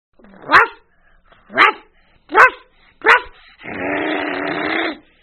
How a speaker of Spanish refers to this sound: Todas las mañanas, Leonardo ladraba al levantarse. Su papá decía, Ya despertó el cachorrito.